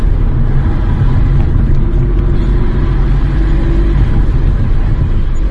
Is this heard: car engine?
yes